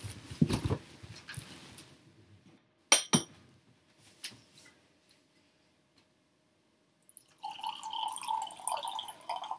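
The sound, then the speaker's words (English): A wine glass clinks sharply, followed after a quiet pause by a steady trickle of wine being poured into the glass, rising slightly in pitch as it runs, with a few soft handling sounds. “I need more wine. Can I pour you some?”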